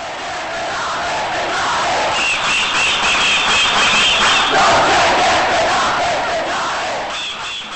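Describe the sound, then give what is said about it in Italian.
A large protest crowd in Italy shouts and chants together in a sustained, loud roar, with rising and falling waves of voices and higher cries cutting through the din. “La protesta alza il tono in tutta Italia.”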